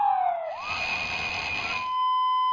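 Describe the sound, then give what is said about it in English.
A harsh electronic siren tone dips briefly, then settles into a loud, buzzing, rapidly warbling wail that grates steadily for a couple of seconds, with no voices. “David Poppel and his team found that car alarms, sirens, and alarm clocks also have this quality, this roughness.”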